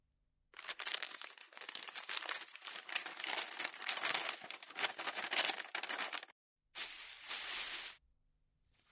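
A paper bag crinkles and rustles loudly for several seconds as it is opened, pauses briefly, then gives one more short burst of crinkling before falling quiet.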